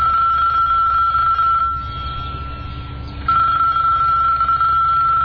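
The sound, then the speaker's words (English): A telephone rings with a steady electronic tone, two long rings separated by a pause of over a second, fairly loud over a low background rumble with no voices, as a call is placed to sort out wedding details. “Zakia phones Layla to iron out the details.”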